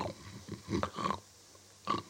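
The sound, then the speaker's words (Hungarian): Several rough, snorting snore sounds made by people imitating shepherds who have lain down to sleep, coming in irregular bursts with short pauses between, moderately loud. “Most lefekszenek a pásztorok, és elkezdenek horkolni.”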